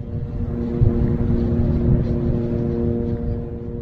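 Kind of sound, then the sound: vehicle, drone buzzing overhead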